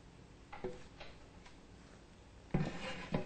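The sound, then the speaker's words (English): Thick blended vegan cheese sauce, made with arrowroot powder, is poured into a small pan for heating, with a few soft knocks and then a louder burst of scraping and rubbing near the end, with no talking. “So first pour it into the pan.”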